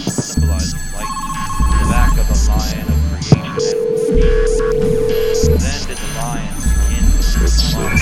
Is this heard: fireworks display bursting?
no